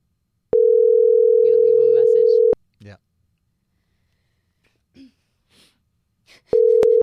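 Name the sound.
phone call ringing tone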